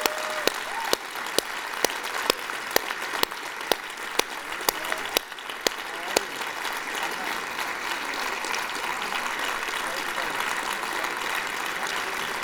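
A large church audience applauds steadily for several seconds, cheering for people's courage to walk down the aisle, with mingled cheers and crowd noise and some sharp individual claps standing out early on, before the ovation gradually settles into a softer, diffuse wash.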